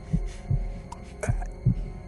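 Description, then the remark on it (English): The muffled heartbeat of an old man thumps low and dull in a slow, steady rhythm, four soft beats over a faint background hum, with no voices present. “But for many minutes, his heart beat on with a muffled sound.”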